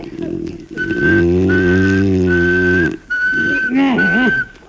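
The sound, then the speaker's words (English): A person whistles one steady, unchanging monotone pitch to stop another person's snoring, held in several long stretches with brief breaks, loud, over a low droning vocal sound. “They say if you whistle in a monotone, maybe that'll work.”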